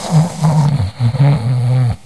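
A man snoring loudly and close by, with two long, rough, rumbling breaths separated by a short pause and no talking.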